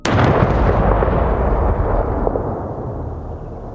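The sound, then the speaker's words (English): A sudden, deafening explosion of an old gas stove, set off when a cigarette lighter's flame shoots across the room to it, bursts out at full loudness as the room erupts in flames, then a heavy roaring rumble lingers and slowly fades over several seconds. No voices are heard. “There's a deafening explosion and the room erupts in flames.”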